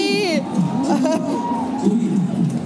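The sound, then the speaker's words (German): Women shriek loudly in high, piercing bursts, the strongest cry at the start, over a steady hubbub of overlapping voices that continues throughout. “Vielleicht kreische ich mal kurz 5 Sekunden.”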